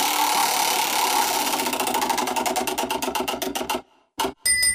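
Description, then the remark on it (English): A game show prize wheel whirs with rapid clicking that gradually slows to individual ticks and stops, followed by a brief pause and a bright chime, in a Mueller air conditioner advertisement. Loud, no talking. “Go ahead and spin the wheel.”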